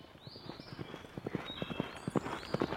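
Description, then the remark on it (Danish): A horse is led into the arena for a ring-riding final in Berlin, its hooves clip-clopping at a steady walking pace on a hard surface, distinct, with a faint high-pitched background hum. “Og ja, nu bliver hesten bragt ind på banen”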